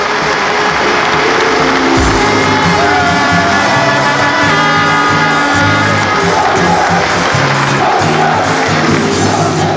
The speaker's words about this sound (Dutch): Dames en heren, een daverend applaus voor de trots van het Noorden, uw eigen FC Groningen.